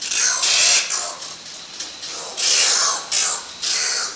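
Harsh, hissing screeches from an oilbird come in about five loud, noisy bursts of uneven length, each a raspy high-pitched shriek separated by short pauses, with no voices present.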